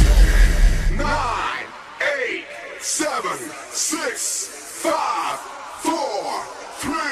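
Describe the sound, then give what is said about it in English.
A crowd cheers and yells for a DJ, with shrill rising whoops and shouts surging about once a second over a steady roar, after a short burst of deep bass at the start. “Ladies and gentlemen, please make some noise for Millonzi DJ.”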